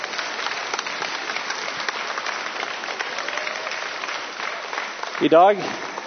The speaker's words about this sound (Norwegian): Men med den spontaniteten som dere viser, så klarer han sikkert på en applaus nå eller noe sånt.